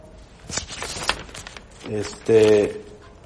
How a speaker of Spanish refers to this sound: Ahorita lo voy a leer, nomás déjenme mover mis hojas porque no sé por qué, pero no están bien.